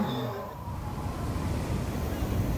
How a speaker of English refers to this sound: As the video club downstairs finally winds down and the clock nears midnight, the sound of the sea takes over again.